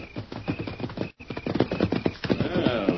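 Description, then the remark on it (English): Horses named Silver and Scout arrive after being called, with a steady run of loud hoof clops, followed by a drawn-out neigh near the end, with no talking. “Here's our horses.”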